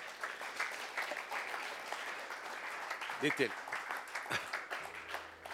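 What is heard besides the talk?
audience applause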